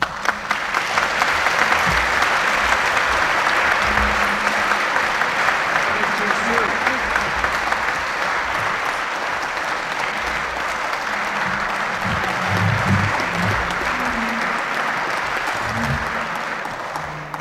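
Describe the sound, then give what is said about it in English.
Sustained audience applause as the Prince of Wales rises to speak at a Variety Club luncheon at the Cutlers Hall in Sheffield, a dense, steady wash of many hands clapping at an even loudness for the full length, with faint low murmurs of voices beneath. “Chairman, Lord Mayor, ladies and gentlemen, I take a long time to rise because it sustains the applause, which is exactly what I need.”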